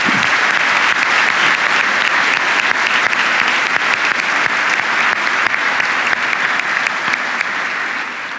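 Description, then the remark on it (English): A large audience claps steadily for several seconds for a woman who has just told her story, a dense, continuous wash of applause that stays loud throughout and only starts to thin out at the very end. “How about we all give her a round of applause?”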